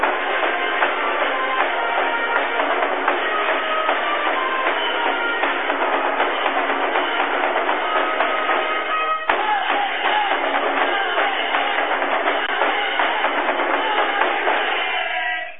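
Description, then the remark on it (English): A loud, dense roar from a basketball arena crowd at a game between the Irish and Auburn, just before tip-off, holds steady for the whole stretch, thick with overlapping voices and tonal, ringing streaks, with only a brief dip partway through. “I'm not going to try to talk over them, folks. They're good. They're loud.”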